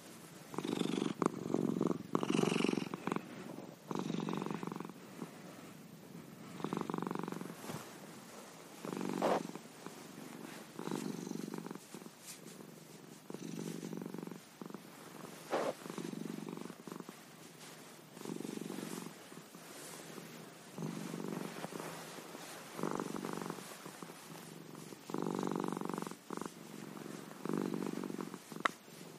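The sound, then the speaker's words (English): A big, heavy cat named Perna purrs steadily in Windsor, its rumble swelling and easing in a regular breathing rhythm for about half a minute, with no voices. “Let me just see if you can hear Perna.”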